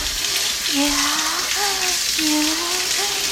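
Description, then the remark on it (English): A steady hiss of spraying water, like a running shower, fills the whole recording, with a voice making drawn-out vocal sounds over it. “Well, I spray water over my clit and it splashes over your fucking heart.”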